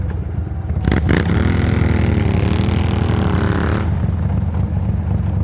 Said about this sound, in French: Je prends ma moto et j'arrive.